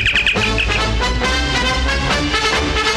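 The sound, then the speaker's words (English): The WJBK Moon Test communicator, the radio contest cue to call in, a bright electronic chirping signal with a quick run of high tweets repeated at the start, sits over a dense, loud bed of music, with no voices. “Be ready to call when you hear the WJBK communicator.”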